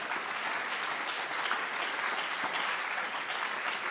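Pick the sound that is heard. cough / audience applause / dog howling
audience applause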